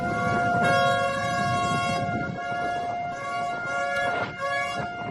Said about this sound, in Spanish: Así sonaban las sirenas de los buques que han participado en esta maniobra tras lograr alejar al Ever Given de la orilla.